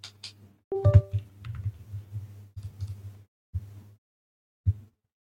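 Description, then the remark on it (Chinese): A wireless computer mouse being swapped for a wired one at a desk during a video game: muffled thuds, rustling and plastic clicks in uneven bursts, with a brief electronic tone early on and a few isolated knocks. No one speaks. “等一下，我把无线换成有线试一下，稍等。”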